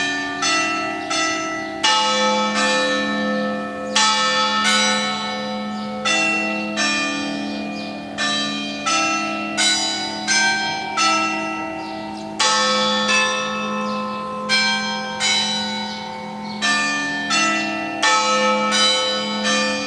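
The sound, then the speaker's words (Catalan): A peal of church bells rings out loud, with many overlapping strikes in a quick, uneven rhythm, each ringing tone blending into the next. No voices are heard. “Doncs bé, d'això anem a parlar, de campanes, concretament.”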